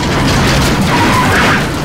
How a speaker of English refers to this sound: His face hits the steering column as the car crashes into a fallen tree trunk.